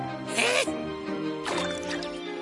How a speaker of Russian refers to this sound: Надо цветок напоить.